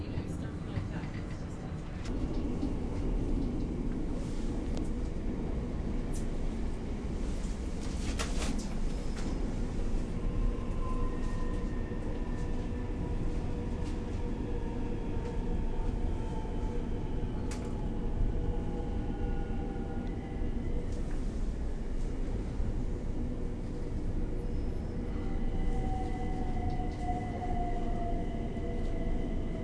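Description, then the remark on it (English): Steady low rumble of a train running along the track as it approaches Tunbridge Wells station, with faint whining tones rising and falling over the continuous rolling noise, heard from inside a carriage. “We will shortly be arriving at Tunbridge Wells. Please mind the gap between the platform and the train.”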